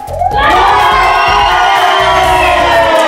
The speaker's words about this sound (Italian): Voi siete rock and roll? Fatemi sentire un grido rock and roll. 1, 2, 3.